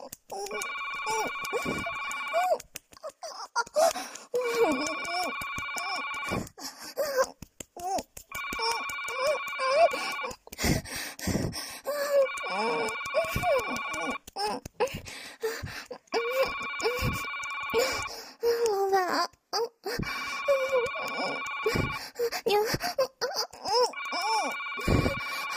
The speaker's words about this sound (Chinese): 好像是我，难听的电话